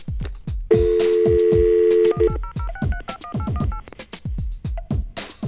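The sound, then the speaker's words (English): A steady phone dial tone plays for about a second and a half, then gives way to a quick run of touch-tone dialing beeps, roughly eight to ten keypresses, as a drug screening phone line is called, over a repeating low thumping beat. “I guess we could, since we're on the phone, we could call the Pee in a Cup Lottery.”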